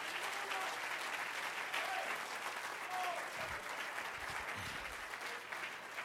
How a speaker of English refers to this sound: If you love what God's done in you, clap your hands unto him and bless his name.